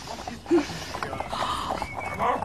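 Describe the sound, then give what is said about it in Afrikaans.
Horse hooves clip-clop steadily from a ridden horse over a busy background, with a brief sharp tonal cry near the start and faint voices murmuring underneath. “Kyk bietjie, ma. Die hanskakie op die perd links voor.”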